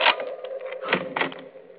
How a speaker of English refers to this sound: Come in. Oh, just a minute, I'll unlock the door.